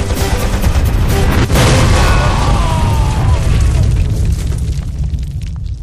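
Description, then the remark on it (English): A loud grenade explosion, set off to get a door open, bursts in with a sharp crack, then a heavy, rumbling roar that sustains for several seconds before slowly thinning out, with faint crackling debris throughout. “We're gonna have to go with the grenades.”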